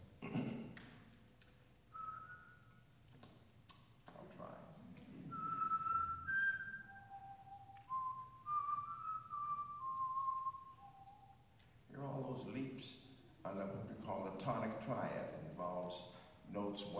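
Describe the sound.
A person whistles the opening broken-chord melody of Brahms's Second Symphony, in D major and 3/4 time, clear sustained notes stepping up and down, loud, with a man talking before and after.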